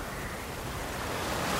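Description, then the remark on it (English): A continuous rushing roar of stormy sea waves and wind around a boat, steady and full throughout, swelling slightly toward the end, with no voices. “I've never seen a storm like this, boat.”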